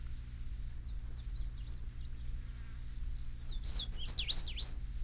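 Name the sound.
bird song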